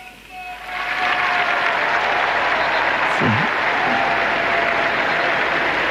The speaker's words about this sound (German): Applaus wieder der Menge auf dem Petrusplatz für den Segen des Papstes, aber auch für seine Worte, die auch heute wieder in einer sehr tiefen und doch sehr einfachen Art und Weise sich uns eröffnet haben.